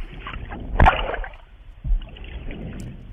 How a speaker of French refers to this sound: Là, il vient de ressortir de l'eau, là, c'est ça ? Oui, là, l'éléphant est remonté à la surface, donc. Et si vous tendez bien l'oreille, vous pouvez entendre sa respiration. Vous entendez les soufflements en fond ? Ah oui, en fond.